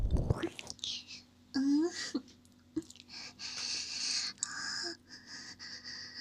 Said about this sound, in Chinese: 你的脸好红呀。被我喊住的时候，喘息声好大，我好喜欢。